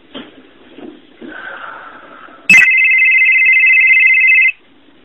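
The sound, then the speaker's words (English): A cell phone rings loudly as a text message arrives: after a sharp click, a steady electronic tone holds for about two seconds, following some faint, murmuring sounds. “A text message has just been sent to Murray's cell phone.”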